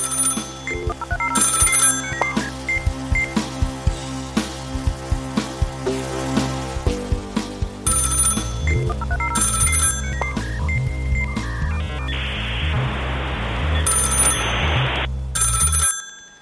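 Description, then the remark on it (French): An old 3310 mobile phone ringtone plays a bright, beeping electronic melody, loud, repeating its tune over about sixteen seconds with a brief hiss of noise near the end. No one speaks. “Je décide alors de continuer ma vie en 3310.”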